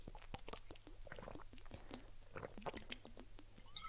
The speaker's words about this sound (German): Also ich muss sagen, ich habe nicht richtig Hunger, aber mein Magen knurrt sehr doll.